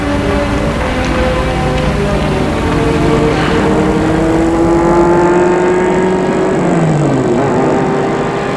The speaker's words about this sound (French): Et a vu la voiture s'enfoncer dans la nuit.